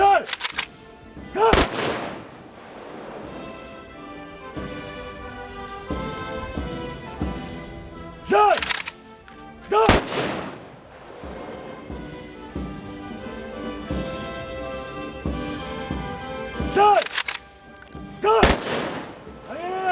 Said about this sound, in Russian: После возложения цветов прогремели залпы оружейного салюта.